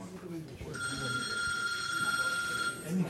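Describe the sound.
A telephone rings once in a sustained, bright electronic trill lasting about two seconds at a family home as callers offer condolences, with faint background voices murmuring underneath.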